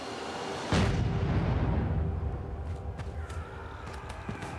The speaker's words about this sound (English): But as they return to their lines, someone in the parliamentary artillery gets itchy fingers and looses off a cannon.